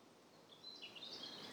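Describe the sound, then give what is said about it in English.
Faint birdsong in a forest with the sun shining through the trees: a few thin, high chirps and warbles drift in over a quiet, airy outdoor background, with no voices present. “I'm recording this in a beautiful forest, with the sun shining through the trees and the birds singing.”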